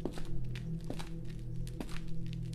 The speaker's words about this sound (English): Were those footsteps? They were getting closer, but the intervals between them were getting longer.